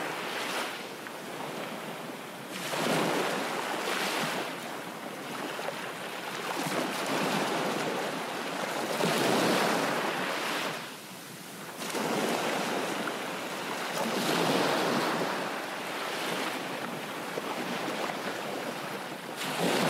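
Ocean waves roll in and wash out steadily, broad hissing surges rising and falling every few seconds with a constant windy rush underneath. No voices.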